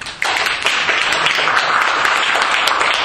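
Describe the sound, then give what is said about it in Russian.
A group bursts into applause, many hands clapping in a dense, steady wash of bright, crackling claps that stays loud and even for about three seconds, with no talking. “Вот я предложу аплодисменты.”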